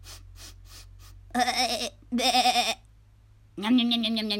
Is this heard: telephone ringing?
no